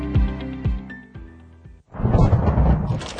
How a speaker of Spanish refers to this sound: ¿Te agarró el granizo en medio de la ruta?